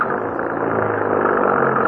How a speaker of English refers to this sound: Please, hurry. Get the car started.